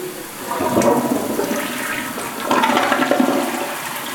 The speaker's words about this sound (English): And I'm flushing the toilet.